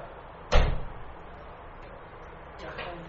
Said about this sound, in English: Shut the door for a second.